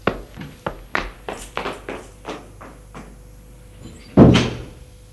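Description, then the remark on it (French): A door is unlocked with keys and opens with a run of small clicks and rattles from the handle or lock, followed by a heavier knock as it swings or bumps at the end. No talking. “La porte s'est ouverte.”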